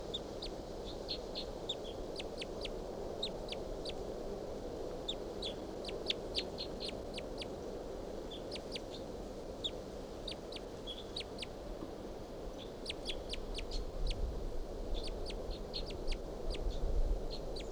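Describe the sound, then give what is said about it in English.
A wild bird calls repeatedly in short, high-pitched chirps, coming in irregular bursts over a steady low background hum, with no voices present. “Wild bird here.”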